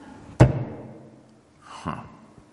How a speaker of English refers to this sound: Servant goes back inside and shuts the door.